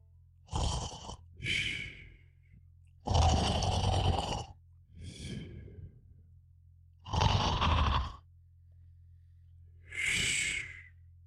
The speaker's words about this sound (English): But before she could yell, she could hear the guard snoring.